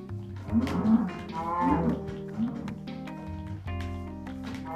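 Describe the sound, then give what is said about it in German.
In a video game, where two cows rest by a huge mountain, a cow moos twice in quick succession, long low drawn-out calls, over a steady game background with a few light taps. “Und hier ist jetzt so ein riesiger Berg. Oh, da chillen 2 Kuh.”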